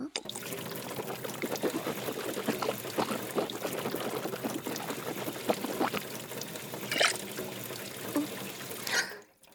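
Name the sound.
water pouring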